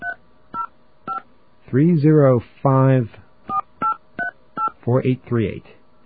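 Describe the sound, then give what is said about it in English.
A run of short, crisp touch-tone beeps from a phone keypad dialing a toll-free 800 number, pressed one after another at an uneven pace, with brief bursts of a voice in between. “But if we call this number, and we're going to get a dial tone on the line here, all right?”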